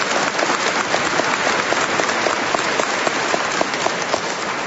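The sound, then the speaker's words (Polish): Sustained applause from a crowd welcoming visitors from the parish of the Exaltation of the Holy Cross in Kielce. A dense, steady wash of many hands clapping holds an even loudness for several seconds with no voices over it. “Także gorące brawa dla nich.”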